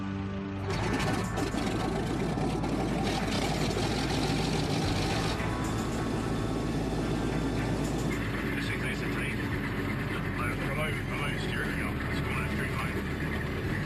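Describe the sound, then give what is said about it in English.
A CL215 aircraft engine runs steadily on the ground outside during a test run after repairs, a loud, continuous roar and drone that holds for the whole stretch, its pitch shifting slightly partway through. “They head out to the runway where they can fire up at full power.”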